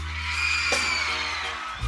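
A concert audience, urged by the singer to scream louder, screams in a dense, sustained roar of high-pitched voices, loud and continuous throughout with a brief sharp burst partway through.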